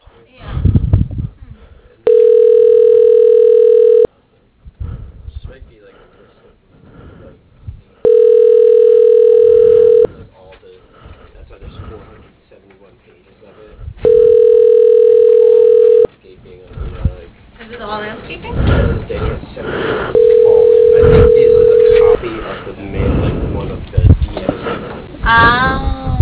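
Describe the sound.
Over a muffled phone line, after a business's automated phone menu, a steady ringing tone sounds four times, each about two seconds long and evenly spaced, with a person talking and some rustling in the gaps between rings.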